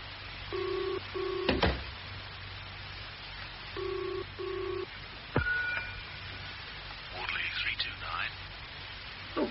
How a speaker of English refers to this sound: Ah, good, it's ringing now. While you're on the phone